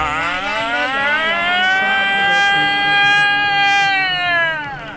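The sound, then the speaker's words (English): A man vocally imitates a siren in one long, loud wail that rises, holds steady, then slowly falls away, with nothing else behind it. “That's him, you know, not no siren. He is the siren.”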